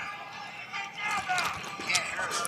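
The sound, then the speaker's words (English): Several quick stomping footfalls thud in an uneven rhythm, moderately loud, over a steady hiss of background noise. “Little stomp.”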